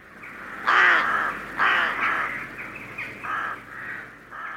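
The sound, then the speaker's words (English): Several harsh crow caws ring out in an uneven series, loud at first, then a few shorter, softer calls follow against a quiet outdoor background. “A murder of crows.”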